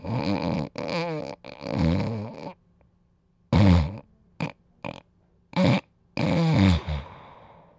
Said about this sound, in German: Schnarchler mit Atemaussetzern brauchen Hilfe.